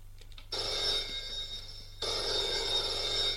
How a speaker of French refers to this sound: Téléphone sonne.